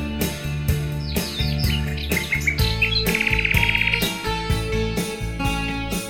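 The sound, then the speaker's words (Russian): Bright, warbling nightingale song trills and chirps over a steady, beat-driven instrumental track, the calls rising in quick bursts and a fast rattling trill before fading into the music. “И песня соловьиная волнует душою, и кажется, что рощица соловушкой поет.”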